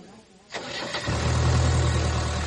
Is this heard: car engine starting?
yes